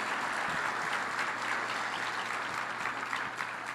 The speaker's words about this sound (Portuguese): Podemos aplaudir ao Senhor Jesus mais uma vez pela vida deles? Sejam muito bem-vindos.